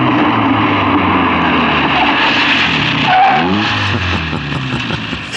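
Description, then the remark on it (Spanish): Calimán's car, which has no brakes, races downhill on a road at high speed. Its engine is loud, and its tires screech and skid in sharp, sweeping squeals that rise and fall near the end. “Allá va Calimán a toda velocidad en el auto sin frenos.”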